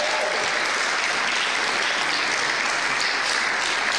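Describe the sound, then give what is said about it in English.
Sustained audience applause from a sizeable crowd, a dense, steady clatter of many hands clapping at once, loud and continuous throughout with no voices standing out. “Let's give them a round of applause right now.”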